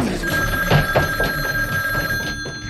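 A telephone rings steadily with a bright, trilling bell tone, repeating for a few seconds over a faint low background hum, clear.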